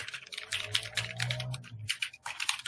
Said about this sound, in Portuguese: e aparece acho que só o barulho do teclado, né?